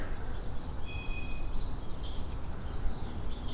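Several birds call from above, with thin high whistles and short chirps scattered over a few seconds against a steady rumble of outdoor wind noise.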